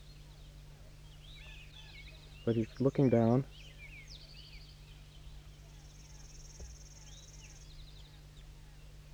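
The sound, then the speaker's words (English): Faint, high-pitched chittering bird calls in short, twittering bursts, with a longer thin trill later on, over steady background hum. A man speaks briefly in the middle. A wary wild bird, a reddish, pinkish, orangish male with a crossing bill, chitters in response to a goldfinch. “That's 5-3 chittering in response.”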